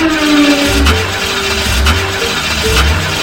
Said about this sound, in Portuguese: Cara, eu não vou conseguir não. O carro não quer pegar.